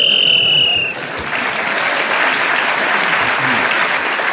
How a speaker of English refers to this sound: Tony Hawks was again speaking as a whistle went